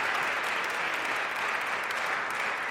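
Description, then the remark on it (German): Steady audience applause for a guest fills the whole stretch, a dense, even wash of many hands clapping at moderate volume with no voices standing out. “Applaus für …, bitte.”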